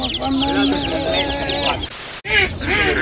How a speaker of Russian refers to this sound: А еще есть маленькие цыплята, прям очень маленькие. И они пищат вот так. Рядом есть утята, и они более спокойны. Вернее, они просто молчат. Они просто ровненько сидят. В отличие от цыплят, которые производят звуки каждую секунду.